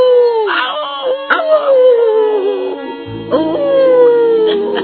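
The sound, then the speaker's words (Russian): Several stray dogs howl together in long, wavering, overlapping cries that slide downward in pitch, with a brief break before another drawn-out howl rises, loud, with no speech. “Бродит один по опустевшей деревне, только с псами бродячими перетягивается. и со временем выучился он по собачьи, вроде как разговор вести, особенно в лунную ночь.”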